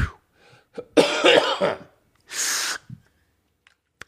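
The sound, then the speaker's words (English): A rough, breathy burst is followed by a short pause, then a sharp hissing puff from an asthma inhaler as someone with bad hay fever affecting their breathing draws in a breath, with a few faint clicks after. “right now I am grateful for... I'm grateful for my inhaler.”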